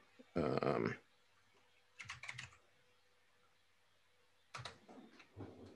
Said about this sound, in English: I need a quiet keyboard.